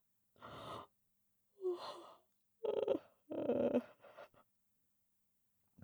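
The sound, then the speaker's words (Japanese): A breathy yawn: a few airy inhales and exhales building into a longer, voiced, drawn-out stretch, then trailing off into soft breaths before silence. “私も出た。”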